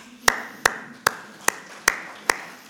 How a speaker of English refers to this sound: China is the nation of the future. Let's give them a clap.